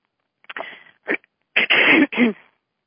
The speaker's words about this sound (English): I'm going to be doing a lot of clearing of expression tonight, so just bear with me clearing my throat.